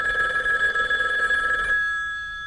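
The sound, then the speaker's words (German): A telephone rings with a steady electronic trill for nearly two seconds, then cuts off, leaving a fading high tone. Clear, with no voices. “Am nächsten Morgen klingelte das Telefon.”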